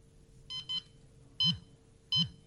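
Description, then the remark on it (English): An accessible pedestrian signal push button gives short, high electronic beeps: a quick pair, then single beeps about a second apart, fairly quiet, over a faint steady hum. “Or if you don't want to have the beeping going, that's the tactile signal if you're going in stealth mode.”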